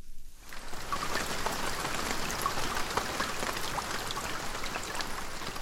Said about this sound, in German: Es regnet viel auf der Schwegalp am Fuss vom Sentis. Die Schwegalp und der Sentis sind absolute Rekordhalter, nämlich dann, wenn es um die Wassermenge geht, die vom Himmel oben herkommt.